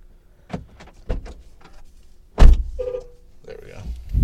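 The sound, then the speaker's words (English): A series of mechanical clicks and thunks from a truck, then a louder clunk followed by a whirring motor hum like a power window moving, all without speech. “Your truck is just making noises.”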